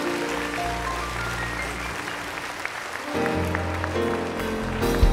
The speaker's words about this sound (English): Would you thank him with a clap offering, would you?